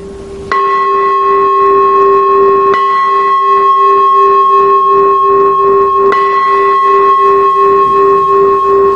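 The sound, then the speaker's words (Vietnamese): A Buddhist temple bell for sutra chanting is struck three times at uneven intervals to begin a chanting service, each loud strike renewing a deep, shimmering tone that hums on continuously between blows, with no talking. “Và nếu mà là chuông tụng kinh, vô chuông mỏ để vô thời kinh thì tiếng chuông sẽ là như thế này.”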